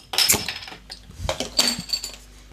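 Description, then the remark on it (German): A glass bottle of fruit lemonade is pried open with a metal bottle opener, a sharp clink followed by a short hiss and a few rattling glassy knocks, with no talking. “Wo ist mein Flaschenöffner? Ah, hier.”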